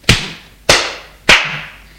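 slap across the face

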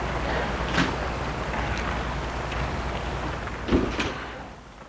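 door being opened

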